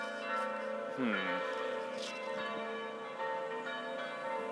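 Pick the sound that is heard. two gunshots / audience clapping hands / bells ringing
bells ringing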